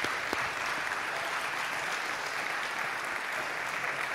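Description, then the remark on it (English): Steady applause for volunteers in youth ministry, children's ministry, ushering and the coffee team, many hands clapping in a dense, continuous wash of sound that holds at an even loudness for the full four seconds, with no voices standing out. “I want you guys to look around. Yeah, give them a clap.”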